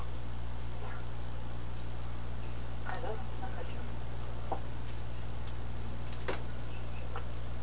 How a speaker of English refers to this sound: Hey, whoever's got the Cokie frogs in the background, your mic is open.